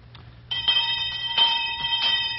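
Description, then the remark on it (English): A school bell rings loudly, its bright metallic tone sustained for about two seconds with a few pulsing swells as it's shaken, and no one talking over it. “All right, we'll use our school bell.”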